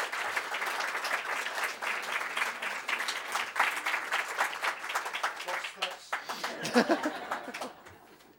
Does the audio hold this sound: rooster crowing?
no